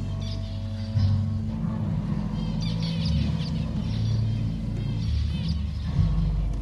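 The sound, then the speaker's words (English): Zebra finches in a gallery art installation chirp in quick, scattered bursts over a loud, steady electric guitar drone, with occasional thuds and twangs as the birds land on the strings of electric guitars set at waist height. No one speaks. “It's the second time he's used zebra finches in an installation, but this time he gambled on their skills on the electric guitar.”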